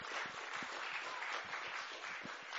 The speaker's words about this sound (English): The choir have been amazing, haven't they? That song, that was just awesome, wasn't it? Yeah, let's give them a clap.